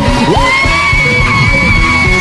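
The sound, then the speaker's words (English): A large crowd screams and whoops loudly and continuously, with rising yells and scattered shouts blending into a dense, roaring wall of cheering. “Let me hear you scream.”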